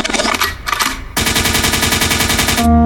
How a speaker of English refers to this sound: Lakewood means rewind, a gunshot means forward.